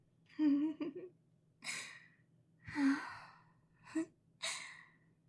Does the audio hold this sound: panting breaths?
yes